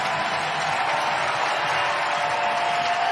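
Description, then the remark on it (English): A large stadium crowd of San Francisco Giants fans roars and applauds in a standing ovation for Mad Bum as he departs, a steady, sustained wash of cheering that holds at an even, loud level throughout, with no speech over it. “And Bum's going to depart, and listen to this crowd.”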